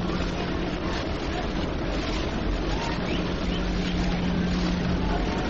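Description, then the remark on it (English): A subway train rumbles along behind the open bleachers behind center field at a baseball game, in a steady, loud, unbroken roar, heavy in the low end, with a faint humming tone running through it and no clear voices. “Subway train goes rumbling along back of the open bleachers behind center field.”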